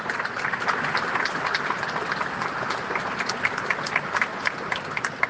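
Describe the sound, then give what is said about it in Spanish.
Sustained applause from a large audience at an exporters' evening event, applauding the export team, a dense steady wash of many hands clapping at once, with sharper individual claps popping through and no voices. “Y por eso los invitaría a dar un primer aplauso de esta noche a todos ustedes como equipo exportador.”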